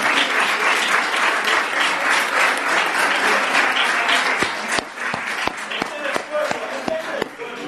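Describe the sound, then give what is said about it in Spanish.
A crowd at a protest in Cubelles on a hot summer afternoon applauds the local police, who have come to protest for improvements, in dense, sustained clapping that thins toward the end into scattered individual claps, with a murmur of voices underneath. “un día como hoy, una calurosa tarde de verano y también aplaudir a la policía local que viene aquí hoy también a protestar para mejorar.”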